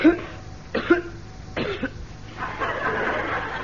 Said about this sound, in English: No, I just felt like coughing. Sort of clears my throat.